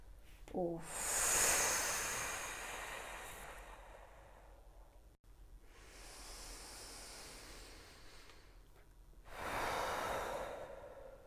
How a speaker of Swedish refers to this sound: Och så vill jag att du tar 3 långa djupa andetag. Bara andas in.